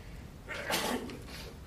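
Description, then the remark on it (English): A single muffled sneeze during a commission meeting, a brief breathy burst that rises and fades within half a second against a quiet room hum. “Bless you.”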